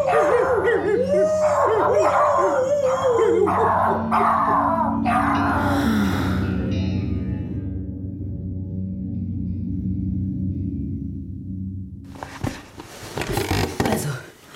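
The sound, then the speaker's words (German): A voice imitates a wolf, with a quick series of yipping barks followed by a long, drawn-out howl, fairly loud, ending in a burst of noisy rustling. “Und ich bin ein Wolf.”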